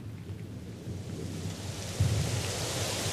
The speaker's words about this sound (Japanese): わあ、ザーザー降りだ。